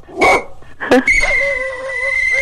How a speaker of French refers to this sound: Quand il jappe, il siffle, à un moment donné, c'est parce que ça vient difficile, là. Ça vient pas reposant non plus, là.